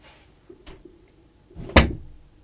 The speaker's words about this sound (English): You've closed the door. Now we can't get out.